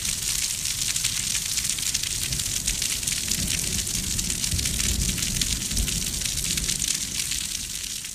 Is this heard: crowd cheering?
no